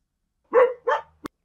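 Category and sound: animal, dogs barking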